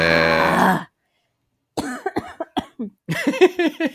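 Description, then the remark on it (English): A loud, harsh cough bursts out, followed by a brief pause and then a voice speaking in short, broken phrases. “I made myself cough.”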